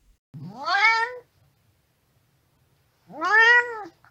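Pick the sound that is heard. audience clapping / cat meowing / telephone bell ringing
cat meowing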